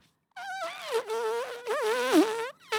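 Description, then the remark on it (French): A voice imitates a buzzing mosquito on request, a continuous, wavering nasal drone that rises and dips in pitch for a couple of seconds, loud, then cuts off abruptly. “Est-ce que vous pourriez nous faire les moustiques?”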